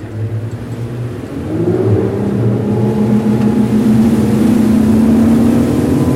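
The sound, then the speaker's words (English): A police patrol motorboat's engine throttles up from a low rumble into a steady, rising drone as it heads out of Green Harbor on a Friday afternoon, the pitch climbing as it accelerates, with no voices. “On a recent Friday afternoon, he motored out of Green Harbor and hit the gas.”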